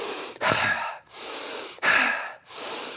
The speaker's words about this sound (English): Let me stand. Take 10 bounces, 10 deep breaths. Here we go.